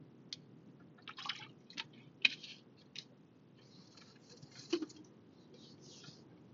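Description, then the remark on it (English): Someone takes a drink of water, with soft clicks, a crinkle of the bottle and quiet swallowing sounds scattered over a steady low rumble, like a moving car. “Give me a second. I need to drink some water.”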